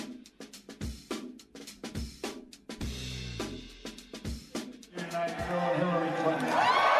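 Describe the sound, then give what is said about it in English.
Voices talk for several seconds, then a crowd's cheering swells in, building steadily louder with high whoops rising over the dense roar toward the end. “Oh, that sounds like cheers.”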